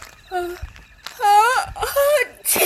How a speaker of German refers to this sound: Gesundheit.